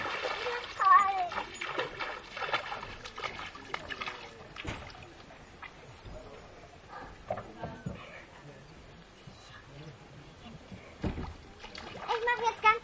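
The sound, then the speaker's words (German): Very cold water sloshes and splashes in uneven bursts, fairly loud, with brief voices murmuring in the background between the splashes. “hat sie mein ganz kaltes Wasser hinbekommen.”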